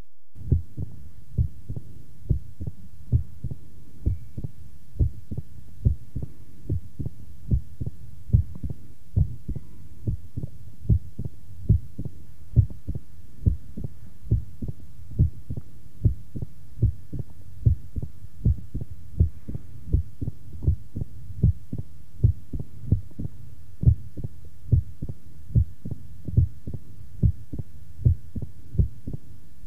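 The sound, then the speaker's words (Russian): A loud, snapping first heart sound at the cardiac apex of a patient with mitral stenosis repeats in a steady heartbeat rhythm, heard as through a stethoscope, with no voices over the low, thudding beats. “Прослушайте хлопающий первый тон на верхушке у больного с митральным стенозом.”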